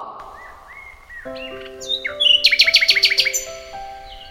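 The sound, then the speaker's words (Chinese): A nightingale sings clear, starting with a few soft whistled notes and then breaking into a loud burst of rapid, repeated trilling chirps over a steady, faint tonal background. “夜莺再一次展现他嘹亮的歌喉，唱出令人忧伤的曲调，连死神都忍不住流下泪水。”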